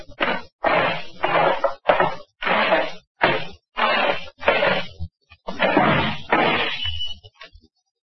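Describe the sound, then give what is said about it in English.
A drinking glass is knocked off a table by someone tied to a chair and crashes and breaks on the floor amid a string of about nine loud, irregular bumps and clattering thwacks, each burst harsh and noisy, with no talking. “I'll squirm my chair over there and knock the glass on the floor to break it.”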